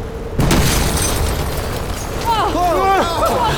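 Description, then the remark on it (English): A grenade left in a car explodes with a sudden, loud boom that rolls into a sustained, heavy roar and rumble. Wailing, rising and falling cries cut through the noise near the end. “I left a grenade in Michael's car. Now, if I timed it right, then...”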